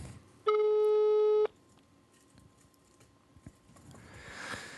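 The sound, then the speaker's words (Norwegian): A loud, steady electronic telephone tone sounds once for about a second, a busy signal after the other party hung up the call, then cuts off abruptly, leaving quiet with a faint low rumble and soft hiss. “Jeg er blitt leggen på for alltid vern.”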